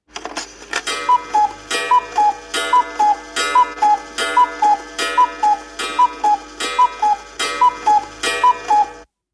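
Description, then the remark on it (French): A cuckoo clock strikes ten o'clock, calling its two-note coo-coo about ten times in a steady rhythm, each call ringing out clearly, with faint mechanical ticking and whirring beneath and no voices. “Écoutez le coucou.”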